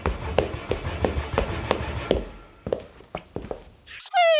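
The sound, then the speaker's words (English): A steady run of soft thuds like footsteps, then a sudden loud, bark-like yelp from a human voice imitating a dog, abrupt at the very end. “Why do I keep barking in between words?”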